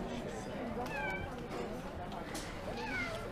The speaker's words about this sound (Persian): گربه وقتی ناله میکنه یعنی دلش درد میکنه. این زبون نداره بگه من دلم درد میکنه که.